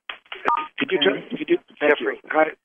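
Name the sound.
telephone keypad dialing tones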